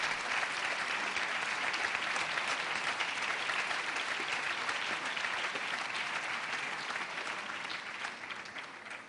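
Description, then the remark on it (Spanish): Sustained applause from a large audience at a UMH awards ceremony, dedicated to performers for their musical performances, a dense rapid patter of many hands clapping steadily for about nine seconds before easing off slightly at the end; no voices stand out. “Y ese aplauso va dedicado para ellos por sus grandísimas actuaciones.”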